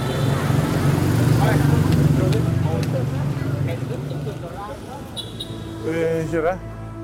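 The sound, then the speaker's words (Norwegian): A car drives along with a steady low engine rumble and road drone, while voices talk indistinctly over it, louder near the end. “Kjører.”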